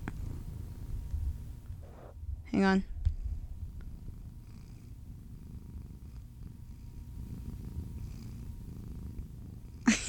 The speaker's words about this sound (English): Oh, here he is. Oh, head purring. Rub on the mic. He's already purring. Let me turn up the gain so you can hear it.